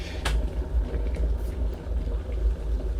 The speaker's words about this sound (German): Der Wasserkocher hat das Wasser jetzt richtig schön heiß gemacht. Und das ist schon mal ein spannendes Geräusch.